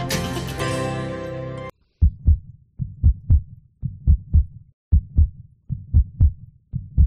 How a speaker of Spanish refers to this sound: Este sonido que escuchan nos recuerda el latido de un corazón.